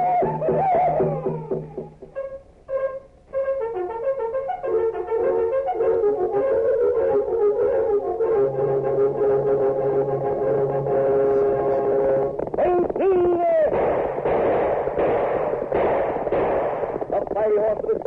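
Galloping hoofbeats signalling the Lone Ranger and a steady tom-tom drum rhythm for Kix cereal pound along under loud, sustained brassy music, with a burst of dense, noisy sound near the end.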